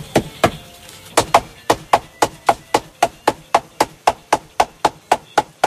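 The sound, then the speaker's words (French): A steady series of sharp, dull hammer blows strike an orange fabric of about two square metres over a hard surface, part of 1500 blows made with heavy mallets like carved tree trunks, about three per second after a few uneven opening hits, each a short thud with no voices. “Donc c'est parti pour 1500 coups de marteau, là, sur ce tissu orange.”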